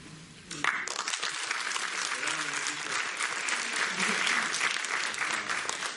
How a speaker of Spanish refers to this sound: Compartiremos el aplauso para todas sin discriminaciones,